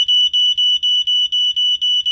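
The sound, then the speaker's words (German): A smoke alarm blares a rapid run of loud, shrill, high-pitched beeps, about nine in quick succession, with no voices or other sounds, set off while someone tries to cook in a kitchen. “so klingt es bei mir, wenn ich versuche, was zu kochen.”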